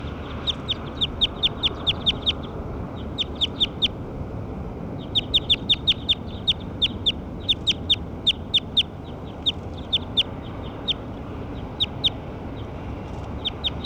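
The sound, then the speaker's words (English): A played-back recording of the calls of bird 6: a bird repeats short, sharp high-pitched calls in quick rhythmic bursts, dozens of crisp chips grouped in runs with brief pauses, over a steady low background rumble. “Those are the calls of bird 6.”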